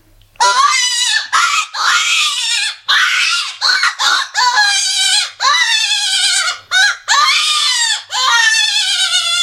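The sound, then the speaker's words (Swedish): A small PC5 hare predator call blown to imitate a rabbit's distress scream: a run of shrill, wavering, raspy wails in quick bursts with short breaks, loud and high-pitched throughout, no talking. “Och den mindre harpipan, alltså PC5, det är den jag har.”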